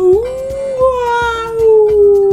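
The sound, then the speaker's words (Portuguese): A voice imitates a whale call with one long, loud, wavering hum. It rises at the start and then slowly sinks, over faint rhythmic low thumps. “Ô, Mucci, como era mesmo o som que o camarão palhaço falou que as baleias fazem? Ih, Millie, acho que era um som tipo”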